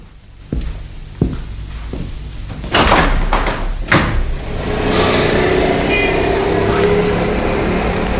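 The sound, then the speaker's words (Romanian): A window being opened: a few sharp clicks and thumps of the latch and frame, a louder rattling bang, then a steady wash of outside noise that continues to the end. “Deschideți fereastra dacă vreți.”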